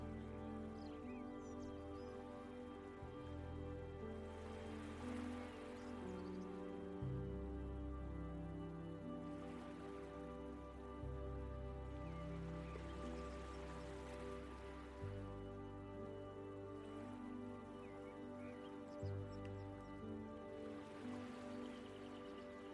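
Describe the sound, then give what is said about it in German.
Gentle lake water laps at a shore in soft, recurring washes every few seconds, over a steady low, humming tonal drone, with no voices. “Höre die Wellen des Sees, die kommen und gehen, das sanfte Plätschern am Ufer.”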